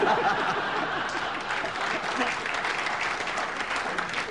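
audience applause

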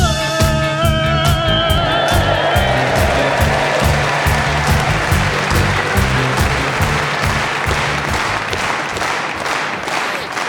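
slow hand clap

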